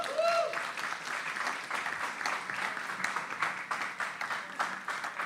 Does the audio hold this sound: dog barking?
no